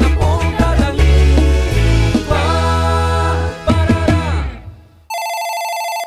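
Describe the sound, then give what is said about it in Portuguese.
Upbeat music with a strong beat plays for about five seconds, then cuts off, and a loud electronic telephone ring starts: a steady, high-pitched buzzing tone that runs to the end. “Atende o telefone!”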